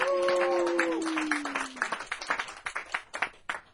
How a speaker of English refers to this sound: And one more applause for Eric and Bert and Becky.